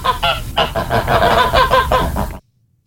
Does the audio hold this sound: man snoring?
no